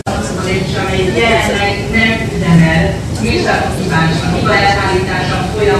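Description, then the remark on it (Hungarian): An escalator runs with a steady mechanical rumble inside the busy Deák tér metro station, with many people chattering throughout at a constant, fairly loud level. “Az első nehézségünk mozgó lépcsővel akadt.”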